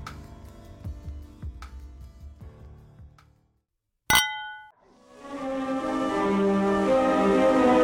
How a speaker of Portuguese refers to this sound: Brinde história? Tchim, tchim. Tchim, tchim.